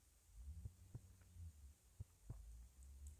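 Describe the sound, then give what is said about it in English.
A slow heartbeat thuds in soft, muffled lub-dub pairs, two double beats over a low steady hum, quiet with nothing else around it. “So just listen to my heartbeat.”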